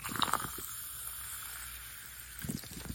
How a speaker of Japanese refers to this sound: 半分ぐらいの白熊くんを コップに入れまして、ここに炭酸水注いでみますね。グラスに入れました。じゃあ入れますよ。音入ります。